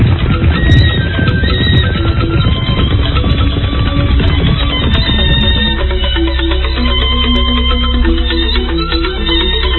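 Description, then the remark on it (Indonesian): A horse neighs loudly, its whinny rising over a busy clatter of hooves clip-clopping on a stony road as a horse-drawn cart rolls along, the sound continuing steadily throughout with no one speaking. “Gerobak kuda meluncur di atas jalanan berbatu.”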